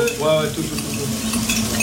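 Chicken sizzles and crackles in a hot pan as footballer Ryan Cherki stirs it, cooking for his France national team teammates, including Jules Koundé; a steady bright hiss with scraping and clinking of a utensil against the pan, no voices.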